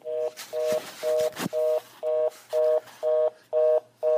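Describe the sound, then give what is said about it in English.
A dropped phone call: a few handling clicks, then a steady run of about eight short beeping tones, evenly spaced like a busy or disconnect signal, clear, with no talking. “Well, maybe if you had an Obama phone, I wouldn't lose contact.”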